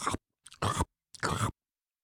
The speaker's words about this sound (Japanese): To crunch down on.